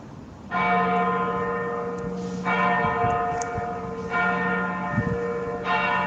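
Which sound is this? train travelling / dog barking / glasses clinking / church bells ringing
church bells ringing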